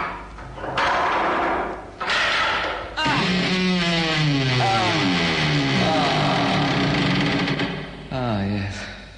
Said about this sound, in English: but I have one final duty to perform here, if I can just get the door open. I better just check that the cupboard's nice and empty.